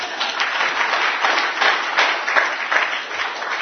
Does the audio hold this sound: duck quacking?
no